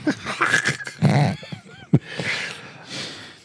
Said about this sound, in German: Der kleine Hund ist übrigens aufgewacht. Hallo, kleiner Hund.